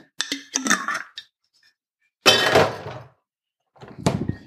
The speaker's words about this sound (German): Ich musste mir noch kurz Kaffee in die Milch gießen.